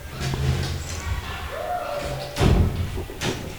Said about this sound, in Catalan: Els llops van tocar a la porta.